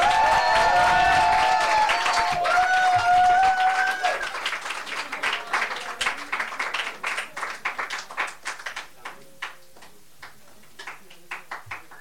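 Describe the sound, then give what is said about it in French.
At an evening poetry event, an audience applauds loudly for a performer coming on stage for the first time. Cheering and whoops rise over dense clapping at first, then the applause thins out into scattered individual claps that gradually fade away. “C'est la première fois, on l'applaudit?”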